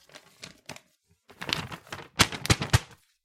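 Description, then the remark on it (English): Paper rustling and crinkling as a fan mail letter is handed over: a series of short, dry, crackly bursts in an uneven rhythm, growing louder toward the end, with no talking. “passes the letter over”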